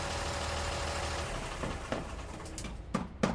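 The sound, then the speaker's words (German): A truck that has pulled up in front of Bobo's house idles with a steady low rumble, and a few short knocks and clatters break in toward the end. No one speaks. “Vor Bobos Haus ist ein Lastwagen vorgefahren.”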